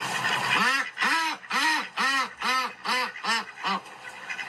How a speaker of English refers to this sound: What's that sound? It's our duck. Did you get it right?